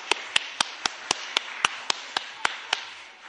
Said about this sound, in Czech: Já myslím, že jim můžeme zatleskat.